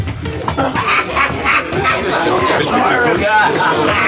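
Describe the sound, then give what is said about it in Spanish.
A loud, rowdy crowd of Arab drinkers in an Arab tavern talks and shouts over one another without pause, with occasional sharper yells rising above the constant din. “El policía pakistano se aleja hasta perderse entre los árabes que beben y gritan como enloquecidos.”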